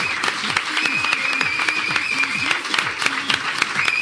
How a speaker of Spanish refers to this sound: Y es que te tengo que aplaudir.